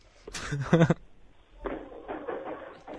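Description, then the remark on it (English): A quick cluster of fake knock-like raps, as on a door, lasting under a second, followed by people talking. “Someone's knocking on my door. I'll just go answer that. That's a fake knock.”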